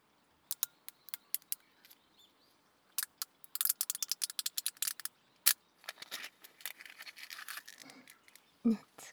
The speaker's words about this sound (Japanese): いい音がするかと思いまして、炭酸のジュース、氷を入れて、氷の音キューキュー言うの聞こえますよね。